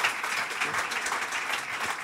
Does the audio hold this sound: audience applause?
yes